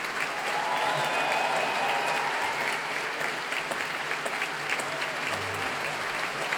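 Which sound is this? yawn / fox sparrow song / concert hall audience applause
concert hall audience applause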